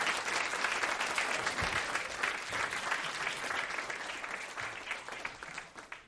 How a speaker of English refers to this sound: Right. And I just want to say again, thanks so much to everybody. Let's give a big round of applause for all the guests tonight here on the show.